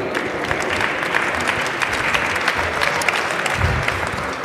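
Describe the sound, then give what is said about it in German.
Steady audience applause for the jury, a dense crackle of many hands clapping at an even, moderately loud level throughout, with no voices standing out. “Einen herzlichen Applaus schon mal für unsere Jury.”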